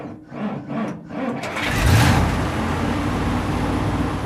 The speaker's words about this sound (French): Bon alors, au moment où l'on se parle, carrément, vous êtes dans le bus à Washington, où vous êtes arrivé il y a 48 heures, et vous vous apprêtez à aller disputer un match amical, c'est ça ?